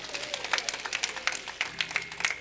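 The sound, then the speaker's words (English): A church audience claps hands as a hand of praise to the Lord at the end of a sermon, a steady, dense patter of many overlapping claps, sustained at moderate loudness with no voices rising above it. “Give the Lord a hand of praise if you will.”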